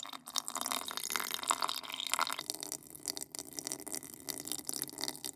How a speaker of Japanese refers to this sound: 靴がおしっこに浸かっちゃう。いっぱい出た。お兄ちゃんはまだ出てるね。